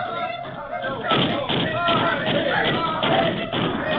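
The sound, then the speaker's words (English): Rapid bursts of gunfire crackle in repeated volleys, each a quick, dense clatter of shots, sounding somewhat muffled, with brief lulls between bursts. “Guns that chatter fast like bark of fox.”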